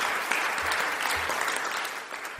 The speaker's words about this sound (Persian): همه شروع به کف زدن کردند.